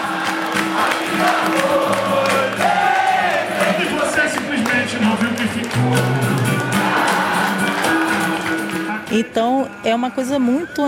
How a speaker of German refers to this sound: Man trifft sich zu einer Horda de Samba. Die Musiker sitzen in einer Runde mit Cavaquinho, verschiedenen Trommeln, Tambourin und dem quietschenden Rhythmusinstrument Cuica. Und alle singen zusammen.